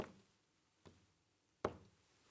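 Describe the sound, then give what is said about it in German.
Three soft, unhurried, polite knocks on a door, evenly spaced with brief pauses between them. The taps are gentle, with the last one slightly firmer. “Vornehm klopfen ist so.”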